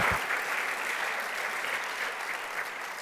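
An audience claps steadily for about three seconds, a dense, even wash of many hands at a moderate level with no voices rising above it.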